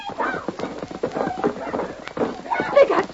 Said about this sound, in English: Stop that horse. I'll get him.